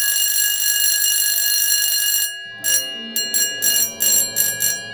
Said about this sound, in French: Alors tu vois, dans mon rêve, il n'y a pas du tout de sonnerie d'école aussi désagréable que celle-là.